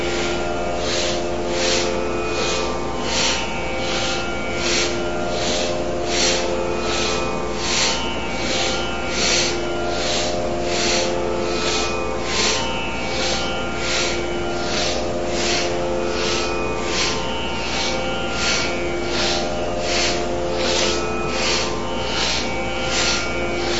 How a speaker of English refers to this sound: Let us start now in one movement. Do the breathing only through your nose, both in and exhale only through the nose, not the mouth.